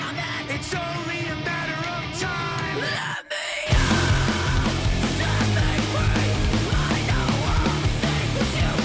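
A heavy rock song with screamed female vocals, loud and dense with distorted guitars, cuts out for a split second, then slams back in even harder.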